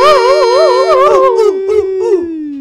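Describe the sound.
A person imitates a howl: one long, loud, wavering wail that quavers in pitch, then slides gradually lower as it fades out.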